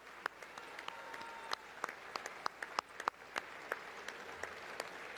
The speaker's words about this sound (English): I should mention that while the Republicans are standing and applauding, and the Democrats are seated with their hands in their laps, the Supreme Court justices are standing but not applauding.